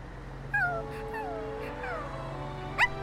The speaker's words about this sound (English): Oh, look! It's a puppy! Come here, puppy! Wow! You're so cute.